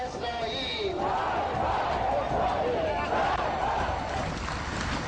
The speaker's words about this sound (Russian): Все собравшиеся кричат вместе, с лозунгами в руках и с поднятым вверх кулаком «Мы кричим!» Смерть Израилю!